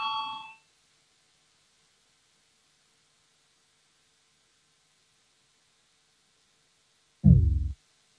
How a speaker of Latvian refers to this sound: Lūdzu zvanu balsosim par 99. Atbildīgās komisijas priekšlikumu. Lūdzu balsosim.